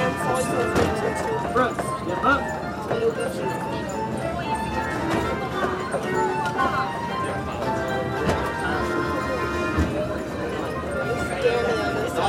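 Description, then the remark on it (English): Horse hooves clip-clop in an uneven, intermittent pattern at moderate loudness, with voices and general bustle continuing underneath throughout. “So we're gonna hit the other horse.”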